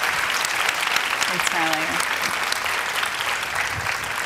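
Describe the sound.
Steady, dense applause from a large audience fills the room, a continuous wash of clapping hands at even loudness, with a brief voice or whistle-like tone briefly rising above it.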